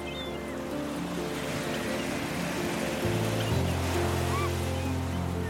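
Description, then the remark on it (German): A steady, rushing roar of foaming ocean surf fills the scene without pause, backed by a low, droning hum; no one speaks. “Ich rieche die salzige Meeresluft, habe den Geschmack von Meeresfrüchten in meinem Mund, spüre den seichten Wind auf meiner Haut, den nassen Sand unter meinen Füßen und sehe die schäumende Brandung vor meinem inneren Auge.”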